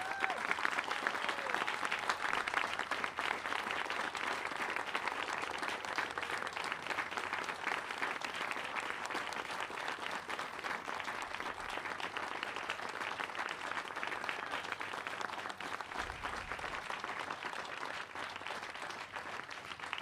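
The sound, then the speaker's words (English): Sustained applause from a band concert audience fills the whole stretch, a dense, steady wash of many hands clapping at an even, loud level without pause. “And a big, could I have the biggest round of applause you can possibly put together”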